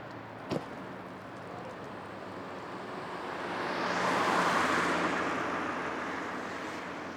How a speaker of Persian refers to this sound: یه صدای یک نواخت مونوتون بالا و اختلاف کرکتر دریاها همینه. و دقیقا اون خیابونا برای من اینو تداعی می کرد. حالا نمونه خیابونا رو دارم می شنویم.